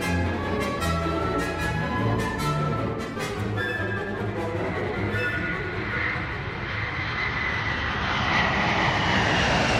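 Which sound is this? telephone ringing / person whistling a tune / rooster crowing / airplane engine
airplane engine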